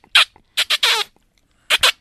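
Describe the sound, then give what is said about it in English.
A person makes sharp, high-pitched squeaks by sucking on the back of a hand, imitating a mouse or baby rabbit in distress: about six quick squeals in short bursts, one drawn out longer, with no talking. “Give that kind of squeaking, sucking sound on your hand, and it does sound like a mouse or a baby rabbit in distress.”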